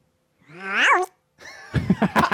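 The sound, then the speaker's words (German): A single drawn-out cat meow rising and falling in pitch, clear, followed after a short pause by a burst of rough, scuffling noises. “War das eine Katze? Haben wir eine Katze hier im Stall?”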